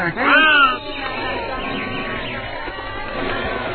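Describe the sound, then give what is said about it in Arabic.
A single loud, harsh crow caw bursts out at the start, then gives way to a steady murmur of voices talking underneath. “ماذا يا غراب؟”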